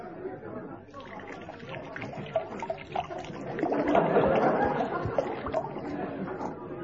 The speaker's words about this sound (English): Large one again, sir? Yes, please. I'll tell you what. This time, just give me the bottle. I'll pour it myself.